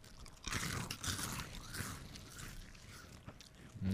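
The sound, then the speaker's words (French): Someone chews a crunchy sweet treat, with a steady run of crisp, irregular crunching bites. There is no talking. “Dans mon souvenir, il était plus croquant que ça”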